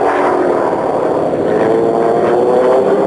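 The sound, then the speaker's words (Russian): A Yak-18PM propeller airplane, piloted by aerobatics world champion Vladimir Martemyanov, drones steadily overhead as it soars up, its engine tone holding loud and constant with a slight rising pitch as it climbs, no voices present. “Небо тушено взмывает еще один самолет Як-18ПМ.”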